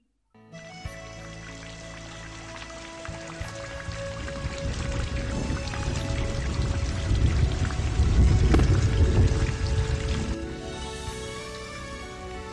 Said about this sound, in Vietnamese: Đêm hôm đó, lại là gió giật mưa tuôn.